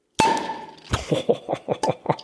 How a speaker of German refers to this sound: Wir haben noch die leckere Cola hier. Cola. Ja, sollen wir die mal aufmachen hier? Ja. Ja, mal auf.